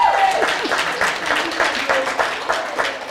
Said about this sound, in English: let's give Dell and Dan and Sherry a great big huge applause